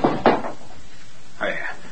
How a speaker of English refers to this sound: I'm sorry. I knocked the basin to the floor.